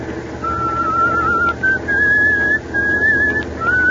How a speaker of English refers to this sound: For the love of Mike, …, if you got a whistle, at least change that tune.